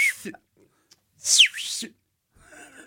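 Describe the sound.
A single loud, shrill mouth whistle in the style of a coach's call, sweeping up and down in one short blast, with brief bits of voice just before and after.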